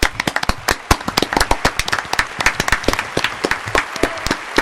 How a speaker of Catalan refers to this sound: I el guanyador és... Els Futbolíssimos. Un aplaudiment per ells, no?